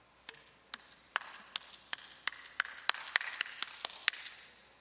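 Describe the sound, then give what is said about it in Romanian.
A series of about a dozen sharp, crisp hand claps, made by two people each clapping with only one hand, sparse at first and then quicker and fairly steady, with no voices. “Și când aplaudau, aplaudau cam așa.”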